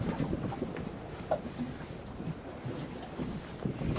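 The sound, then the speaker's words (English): Gentle water laps against the side of a boat drifting with its engine off among ice off Greenland, while a steady breeze rushes softly across the microphone, with no voices or engine. “The only things I hear are the water lapping at the side of the boat, the breeze, and the sound of my own breath.”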